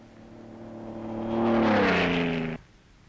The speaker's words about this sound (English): He doesn't slacken his terrific pace as night crowds down on him. Flares are lighted, and he continues on into the darkness. The roar of the engine is the only sound to break the desert silence.